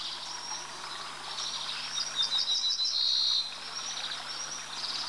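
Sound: ortolan bunting song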